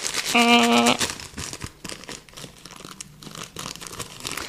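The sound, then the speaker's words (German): Persistent crinkling and rustling of a plastic bag that will not open being worked at, with irregular crackles and scrunches throughout and a brief tonal hum near the start. “Jetzt schnappe ich mir meine Tüte. Berühmter Finger an lecker, weil die Tüte nicht aufgeht.”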